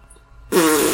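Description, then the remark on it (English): A little girl blows a loud, buzzy fart noise with her mouth into a small toy microphone with a built-in speaker; it bursts in abruptly after a moment of quiet and sputters for about half a second. “I'm like, you're straight to the fart noises.”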